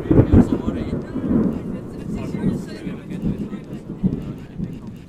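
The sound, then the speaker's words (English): A deep, rolling rumble of thunder from a rainstorm advancing over mountain ranges, swelling and churning continuously for several seconds, fairly loud and low, with a few stronger surges near the start. “Looking out over the vast mountain ranges extending far out in the distance, you could see the curtain of rain slowly advancing towards us, and then you'd hear the thunder.”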